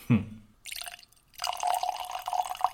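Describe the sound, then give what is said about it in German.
Whisky from a sample is poured into a glass: a soft knock, then a short gentle splash, a brief pause, and a longer steady trickling pour that gurgles softly until the end. “Dafür klingt das Eingießen immer bei den Samples umso schöner. Sanft plätschert es ein.”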